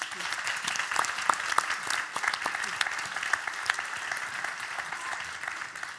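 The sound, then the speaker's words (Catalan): An audience applauds steadily for several seconds at the start of a talk about author Ted Lewis, a dense crackle of many hands clapping at an even, moderately loud level with scattered sharper claps standing out. “Un aplaudiment i comencem.”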